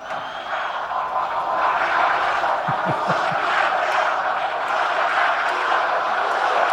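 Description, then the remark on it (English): A large crowd of over 125,000 people at an NFL event in Green Bay yells together in a steady, loud roar that holds for the whole stretch, the massed voices blending into one continuous wash of shouting. “What are they yelling? Is it Go Pack Go?”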